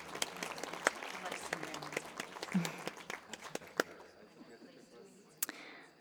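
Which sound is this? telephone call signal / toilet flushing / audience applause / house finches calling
audience applause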